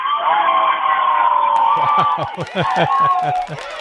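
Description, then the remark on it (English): A group of about 40 people yelling and shouting together at once, a loud sustained roar of many voices, with a rhythmic thumping or stomping sound joining in partway through. “You want to hear them all yell? Yeah. Everybody yell!”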